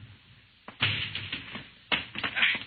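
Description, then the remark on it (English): Heavy blows strike a door as it is broken down, in two quick flurries, a sharp bang followed by a cluster of thuds and cracks, then another rapid series of crashing impacts, fairly loud with no voices. “He'll break down the door in a minute.”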